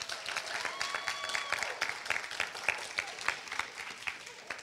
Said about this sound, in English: A round of applause for Team 5.